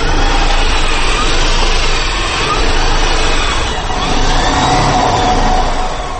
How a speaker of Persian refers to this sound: صدای ماشین برقی ایامیدین خیریدین دانشجوی سال چهارم دانشگاه تکنولوژی تاجیکستان را می شنوید که در آزمون عمومی جمهوریوی بهترین اختراکار میان جوانان کشور جای اول را اشغال نمود.